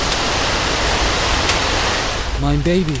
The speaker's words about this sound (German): Die Feuerwehr ist da. Wir löschen das jetzt. Wassermarsch!